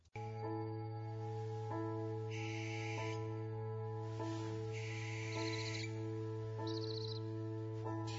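A barn owl gives three harsh, hissing screeches, each lasting about a second, spaced a few seconds apart over a steady low humming drone.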